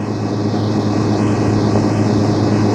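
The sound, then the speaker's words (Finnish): A steady, loud rotor-engine drone fills the scene, a helicopter hovering or passing with a constant low throbbing hum and no voices. “Siinä on helikopteri.”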